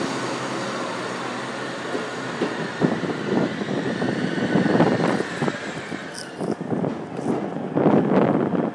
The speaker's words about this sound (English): Oh no, here's a train arriving now.